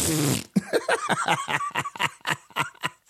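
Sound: fart sound effect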